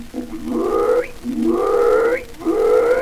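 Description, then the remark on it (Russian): A pig gives three drawn-out grunting calls in a steady rhythm, each about a second long and sliding upward in pitch to a squeal-like end, loud and with no talking. “Вот послушай, как она запоет.”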